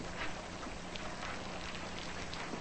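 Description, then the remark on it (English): Steady rain patters against a window, a dense, even hiss of drops with occasional sharper taps, constant throughout, with no voices. “Jesse stares out a rain-streaked window.”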